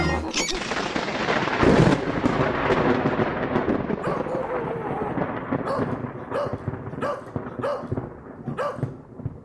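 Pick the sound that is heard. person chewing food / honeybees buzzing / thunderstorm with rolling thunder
thunderstorm with rolling thunder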